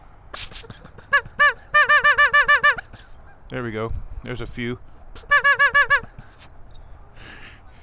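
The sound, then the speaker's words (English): A duck call with a misbehaving reed, blown from a hunting blind, gives rapid runs of squeaky, reedy quacks in two bursts of four or five, with lower honking notes between and a man speaking briefly. “And my duck call doesn't want to quack anymore.”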